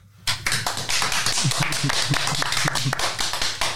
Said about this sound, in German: Auch von unserer Seite Applaus. Ja, ihr hört schon, dass im Sunrise nach der Aufnahme des Podcast-Workshops ganz gute Stimmung herrschte.